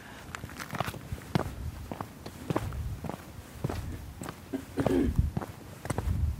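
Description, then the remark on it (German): Footsteps walk steadily across paving stones, taking large steps from one mayor's stone to the next on the way to the 17th-century Krüsergården courtyard, each step a crisp tap in an even rhythm, with faint outdoor ambience behind and no talking. “Man kann hier so von einem Bürgermeisterstein zum anderen laufen. Große Schritte machen.”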